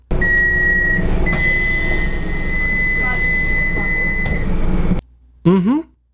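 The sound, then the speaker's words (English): A train's door-closing sequence: a steady high warning tone sounds over loud rumbling carriage noise for several seconds, then everything cuts off abruptly, followed by a brief voice. “The closing door of a train.”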